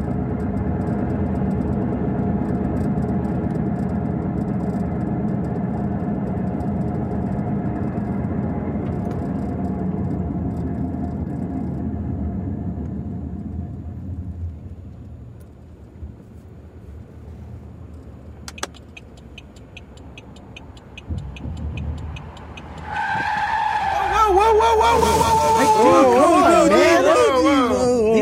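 A bus's engine rumbles steadily, then fades to quiet before a loud, wavering high-pitched screech of skidding tires bursts out near the end.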